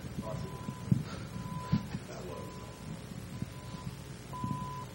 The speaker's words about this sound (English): What the hell is that beeping? The projector?